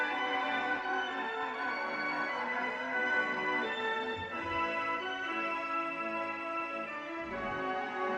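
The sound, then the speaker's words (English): A wheezy, organ-like carousel tune plays continuously at a steady, moderate volume while the carousel turns and its horses go up and down, its sustained notes carrying a slightly melancholy feel, with no voices over it. “There is a music that is a little sad.”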